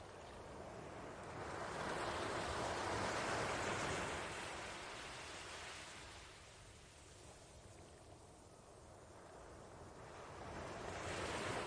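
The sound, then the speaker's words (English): Steady ocean surf rolls in broad swells, building to a rushing peak around a few seconds, easing off, then surging again near the end, with no voices over the continuous wash. “All is silent but the calls of the sea.”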